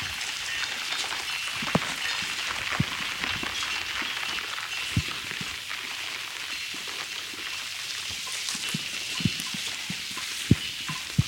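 rain falling outdoors

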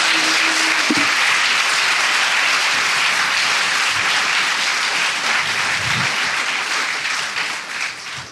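audience applauding

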